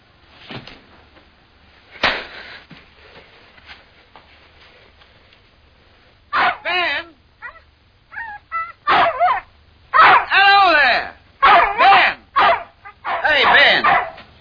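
An old dog that has been put outside whimpers, whines and gives short barks in a string of bursts growing more insistent, following a quiet stretch with only faint background noise at the start.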